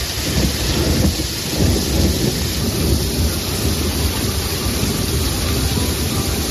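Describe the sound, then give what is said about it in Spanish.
A thunderstorm with steady, heavy rain hissing throughout and deep rolling thunder rumbling continuously underneath, fairly loud, with no voices. “Mira qué bonita la tormenta de fondo.”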